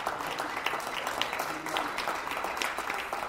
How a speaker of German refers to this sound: Mittwochabend, 20 Uhr in der Rue Saint-Bernard, Paris 11. Arrondissement. Wie überall in Frankreich gibt es Applaus für das Pflegepersonal in den Krankenhäusern.